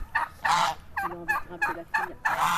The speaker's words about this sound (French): Dans l'arrière-cour d'une maison traditionnelle, au milieu des oies, des dindes, d'une dizaine de chiots nés la veille, 4 chevaux sont bichonnés par le palefrenier